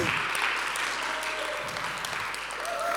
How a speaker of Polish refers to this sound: Wielkie brawa